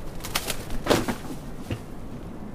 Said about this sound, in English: It was fully black with a strong yellowish beak, and it landed right next to us on the wooden bench. And this was the bird we were looking for, the Westland Petrel.